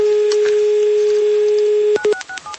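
A steady telephone dial tone hums, then a quick run of keypad tones beeps as a number is dialed, each short electronic tone stepping to a different pitch. No one speaks.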